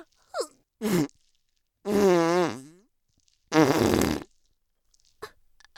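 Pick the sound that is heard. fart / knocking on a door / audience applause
fart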